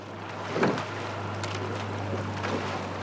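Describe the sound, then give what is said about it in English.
Oars of rowers preparing for a race dip and pull through the water of the Charles River in a few spaced, splashy strokes, skimming just above the surface before prying through, over a steady low hum and light wind noise. “Oars skim just above the surface before prying through the water.”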